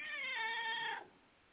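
A single drawn-out cat meow, about a second long, loud, with a steady whiny pitch that fades off abruptly into quiet background.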